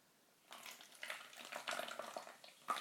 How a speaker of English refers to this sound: Ooh, this sounds very fizzy. Sounds like bloody champagne now. God. Hey, oh, it does actually. If you poured that into a champagne flute, it would sound fab.